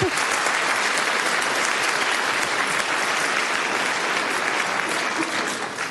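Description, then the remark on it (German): A large audience applauds steadily and warmly for a guest introduced to a panel discussion, a dense wash of clapping that stays loud and even throughout, fading only slightly at the very end. “Dann haben wir in unserer Runde einen herzlichen Applaus.”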